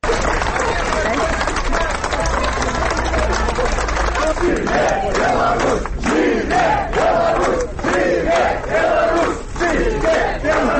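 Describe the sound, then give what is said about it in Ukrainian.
Dozens of relatives, supporters and journalists by a court building cheer and shout in unison, chanting "Zhyve Belarus" in repeated chant-like bursts over a constant roar, with scattered clapping mixed in throughout, as they greet freed prisoners. “ля будынку суду сустракалі дзясяткі родных, паплечнікаў, журналістаў, кветкамі, аплодысментамі, воклічамі «Жыве Беларусь».”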